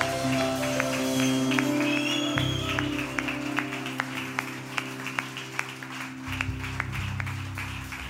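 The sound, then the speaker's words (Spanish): An audience claps for Jesus in a steady, even rhythm, sharp claps repeating about twice a second over sustained, droning instrumental chords that shift pitch partway through. “Yo creo que ese aplauso puede ser mucho más grande al que venció.”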